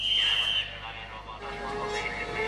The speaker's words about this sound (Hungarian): A legmodernebb magyarországi vasúti pályán indul a vonat Kápolnásnyékre. Igen, tudja, 160-an. A mozdonyvezető most csak 120-ig gyorsít, de a pálya és a mozdony elbírná akár a 160-at is.